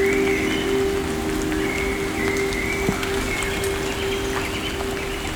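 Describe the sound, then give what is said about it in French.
Light rain falls steadily under trees in a mountain forest in Piedmont, a soft, even patter with scattered individual drops ticking, continuous for the whole stretch with a faint steady tone underneath and no voices. “Et une légère pluie à présent.”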